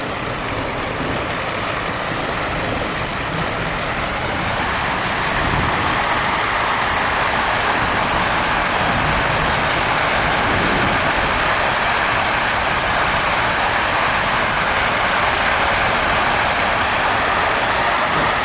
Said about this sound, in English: Wow! This storm is breathing. Feel the energy from this storm.